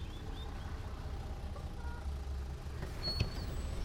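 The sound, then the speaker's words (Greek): A city bus engine rumbles steadily, a deep continuous drone with faint high tones and a brief clank near the end as it pulls in at a stop and moves off, carrying passengers toward Aristotelous Square. “Παίρνουν λοιπόν το λεωφορείο και κατεβαίνουν στην πλατεία Αριστοτέλους.”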